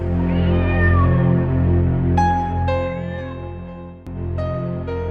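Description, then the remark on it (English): Dick Whittington's cat, in a comic story, meows in long, drawn-out cries with rising and falling pitch, loud, followed by several more sustained mewing calls over a steady background tone. “Dick Whittington and his cat.”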